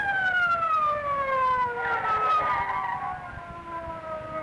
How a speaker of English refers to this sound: Listen. Police car. sounded like it.